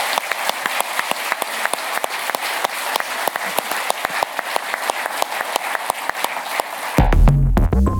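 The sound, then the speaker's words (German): Sustained applause from an audience for the panel discussants on stage, a dense patter of many hands clapping steadily for about seven seconds before it cuts off abruptly into a brief low musical tone. “Nochmals vielen, vielen Dank und vielleicht einen großen Applaus an die Diskutanten hier auf der Bühne.”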